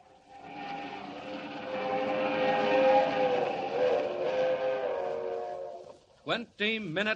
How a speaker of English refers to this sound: Roaring up the Rockies to the crossing at San Joaquin, the crack streamliner of the West Coast Railroad rushes through the dark at 80 miles an hour, destined for a watery grave at the bottom of Schooner Canyon Lake.